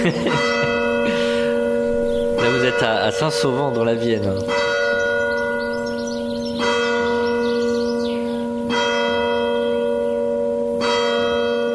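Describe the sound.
A church bell tolls loudly twelve times, with slow strikes about two seconds apart, each ringing out into a long, resonant hum. A man speaks briefly over the tolling.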